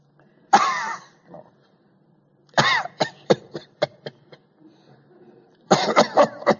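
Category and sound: vocal imitation, imitated cough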